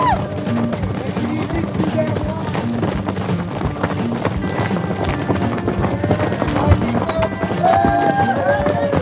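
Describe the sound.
About a dozen horses gallop past runners at the start of a race in a barren desert, a steady rush of hoofbeats mixed into a loud, busy wash of outdoor noise with wind and faint voices throughout.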